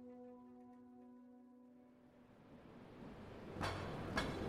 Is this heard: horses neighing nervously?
no